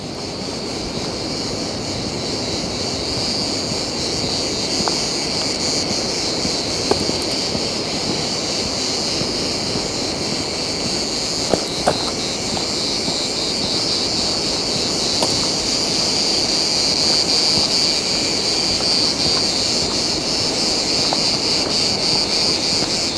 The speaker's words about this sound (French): Ici, un amas de cigales. Accompagne notre marche. Un air de Méditerranée.